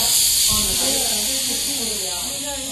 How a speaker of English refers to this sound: Another sound we don't like is the hiss of air leaving a tire.